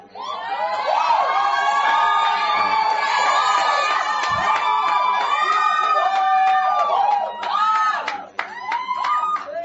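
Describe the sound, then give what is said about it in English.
A large audience at a church service claps, cheers and shouts loudly and continuously after an announcement about resources for a new venue, many overlapping voices raised in excitement, with a brief dip near the end before the roar swells again. “I know the reason why you clap, but you didn't hear my full statement.”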